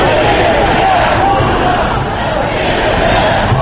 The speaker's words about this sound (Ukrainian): Сьогодні на вулицю вийшли критики і прихильники Кремля. Близько 500 осіб вигукували гасла «Росія без Путіна» і «Свобода».